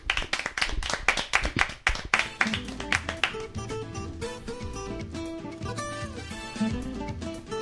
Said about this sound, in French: Eh bien, un tonnerre d'applaudissements pour Flo.